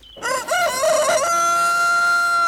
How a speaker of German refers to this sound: Das war nur der Hahn.